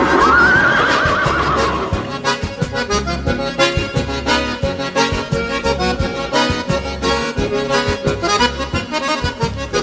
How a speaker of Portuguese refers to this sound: Para amansar essa éguada, não é preciso ginete, basta apenas um relincho do cunhudo do Alegrete.